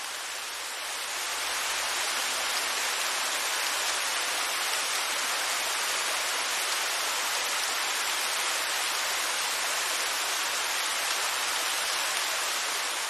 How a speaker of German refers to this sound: Und nun spült der Wasserfall all die Schwere und Bürde aus deinen Füßen heraus.